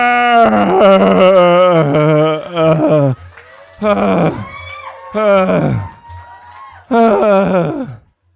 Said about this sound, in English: They both screamed.